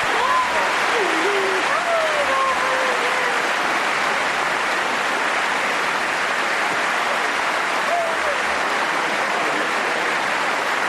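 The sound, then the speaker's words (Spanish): A thunderous ovation of steady, dense clapping fills the whole stretch, loud and unbroken, with Carolina Marín's faint wavering sobs rising and falling beneath it. “Mezclan los sollozos de Carolina Marín con los aplausos, la ovación atronadora.”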